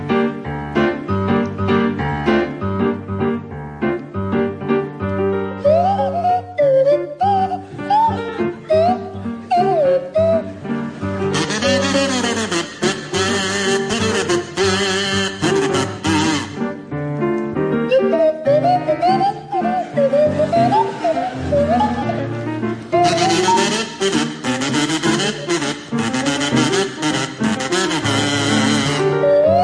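A kazoo and a swanee whistle play a loud, continuous jazzy tune with wobbly, sliding pitches over a full band, with splashy cymbal-like brightness in the middle and final stretches.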